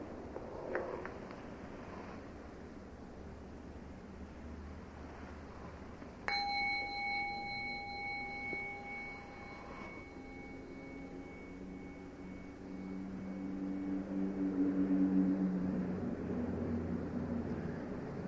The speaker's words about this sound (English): See, the bell came out of nothing, floated off, and then stopped being a sonic echo and became a memory, which is another kind of echo, a wake.